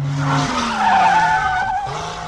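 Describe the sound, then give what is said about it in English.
A car being driven fast: the engine revs hard while tires screech in a long, sustained skid, the squeal holding loud for a couple of seconds with no voices. “Aren't you driving a bit fast?”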